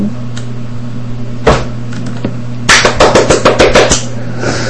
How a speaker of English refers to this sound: That was me clapping. For you who don't know what a clap is.